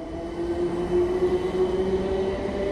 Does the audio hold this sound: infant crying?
no